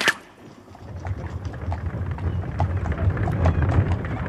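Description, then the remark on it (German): Horse hooves clip-clop at a steady pace over a low, rumbling roll of the wheels of a hackney cab carrying Mr. Pickwick and his luggage from the cab stand in St. Martin's to the Golden Cross, the sound building slightly as the cab gets moving. No one speaks. “Mr. Pickwick wurde samt Gepäck verstaut und der Wagen fuhr los.”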